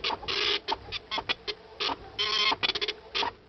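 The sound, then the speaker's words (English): A dot matrix printer prints in rapid, raspy bursts of buzzing, with short pauses and a few longer runs between them as the head moves back and forth, fairly loud. “A dot matrix printer, remember that?”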